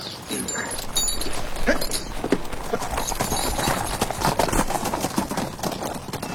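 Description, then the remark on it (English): A mare's hooves pound in a quick, steady galloping rhythm, fairly loud, with a continuous rustling, outdoor-sounding background throughout. “But those horses... Are first class, are they not?”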